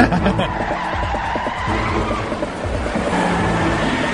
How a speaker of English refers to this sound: What is an episode of Alias without a car chase? Screeching tires.